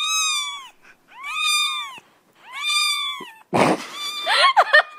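A cat meows three times in a row, each call drawn out and rising then falling, followed by a harsher, noisier burst of yowling.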